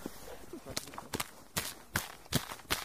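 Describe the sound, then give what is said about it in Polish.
Lake ice crunching and cracking beside a hole cut in the ice for ice rescue training: a string of about seven sharp, bright crunches at a loose, step-like rhythm, each a brief loud snap over a faint low rumble. “Chrupie, no tam chrupnęło. O, są tu też, słychać.”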